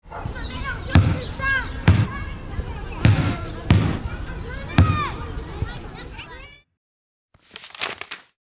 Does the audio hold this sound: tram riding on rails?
no